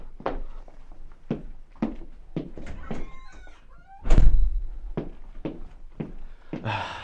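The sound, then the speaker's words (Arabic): Steady footsteps cross the room, followed by a brief squeak and a heavy thud as a door is pulled open. A few more steps follow, with no one talking. “سأفتح الباب.”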